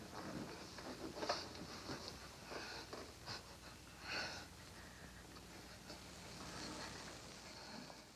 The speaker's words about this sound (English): And that silence and then the little squeaking is them kissing passionately after she's attempted in vain to fight him off and then gives in. It's really quite a moment in the film.